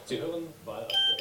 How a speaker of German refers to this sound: Oh, jetzt habe ich hier auch noch eine SMS gekriegt.